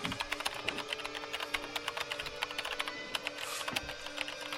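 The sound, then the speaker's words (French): Rapid, steady typing on a computer keyboard, with dense overlapping key clicks over a faint electronic hum, and no voices. “Non, je vais prendre le clavier.”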